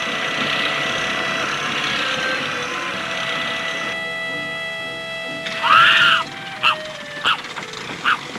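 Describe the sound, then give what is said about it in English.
A small boat motor putters steadily at an even idle for the whole stretch as the boat slowly turns around and moves away, with a few short high-pitched calls breaking in near the end. “He pulls up the heavy anchor and starts the motor.”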